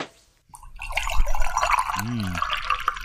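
Eggnog glugs and splashes steadily into a glass for about two and a half seconds after a short silence, with a brief voiced murmur partway through, as a drink is poured for an arriving guest.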